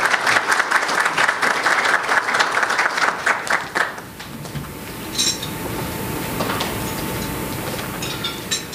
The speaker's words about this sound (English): So please, a warm Alaska World Affairs Council applause and welcome to Commissioner Tong to the podium.